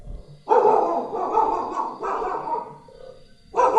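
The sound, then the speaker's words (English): A dog, one of the dogs living in Vrindavan, barks loudly in three bursts: two long, drawn-out barks back to back, then a brief pause before another starts. No one speaks. “stop the dog”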